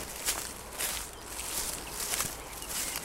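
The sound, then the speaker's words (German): Soft, steady footsteps swish through grass along a fox trail at a relaxed walking pace, each step a brushy crunch, with no talking. “Und dem laufen wir jetzt einfach mal hinterher, würde ich sagen, und schauen.”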